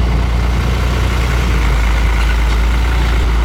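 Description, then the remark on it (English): A heavy truck rumbles steadily over a wooden boardwalk set in marshland in rural Levy County, hauling away cut trees, its deep engine drone loud, holding constant for a few seconds with no voices. “A stone's throw from his trailer, truck after truck rumbles over a wooden boardwalk set in the marshland, cutting down trees and hauling them away.”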